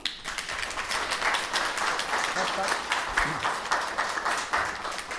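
Sustained applause from an audience, a dense, steady patter of many hands clapping for about five seconds at a fairly even loudness, with no talk over it.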